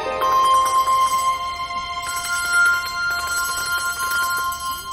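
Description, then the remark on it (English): Bells, uncovered for a group of Christmas carol singers to try playing, ring out in overlapping, sustained tones, with a few clear, bright strikes layered over one another and left to shimmer. The ringing stays fairly loud throughout, with no voices. “They uncover the bells.”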